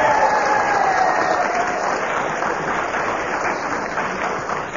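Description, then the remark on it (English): A large audience, including the Kenneth Williams fan club, applauds loudly and steadily after the whistle goes while Kenneth Williams is speaking, a dense wash of clapping that holds for several seconds and eases off only slightly toward the end, with no talking over it. “And Kenneth was speaking when the whistle went, and they made quite certain that they applauded the fact, and...”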